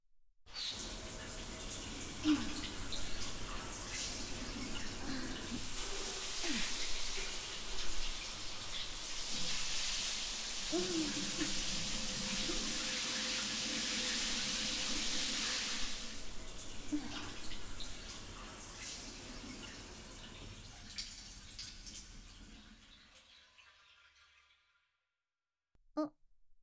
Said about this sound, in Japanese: ああ、シャワー浴びたぞ。